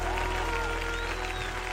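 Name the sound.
audience applauding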